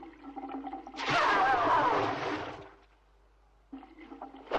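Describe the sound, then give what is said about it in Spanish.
A burst of sloshing, splashing water rises abruptly as a person bathes in a barrel of cold water, churns loudly for about two seconds, then fades, followed by quieter rustling and movement. “¿Cómo se atreve a entrar mientras me baño en este miserable barril?”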